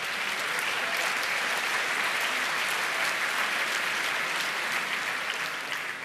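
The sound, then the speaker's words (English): An audience claps steadily for several seconds, a dense, even wash of many hands with no pauses and no voices rising above it. “As a hint for those who did not clap, this means everybody who's in that network.”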